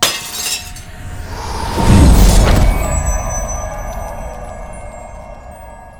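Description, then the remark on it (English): An object dropped onto a jutting metal spar sets off a massive explosion about two seconds in, a deep rumbling blast mixed with shattering, breaking debris, then a long ringing tail slowly fading out. No voices are heard. “and then you just fumble it and you slip, and it's like getting a bar of soap, and it just drops out of your hands, lands straight onto a jutting metal spar, and there is a massive, massive explosion.”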